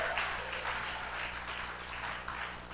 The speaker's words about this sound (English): Come on, somebody give the Lord a good hand clap in this place.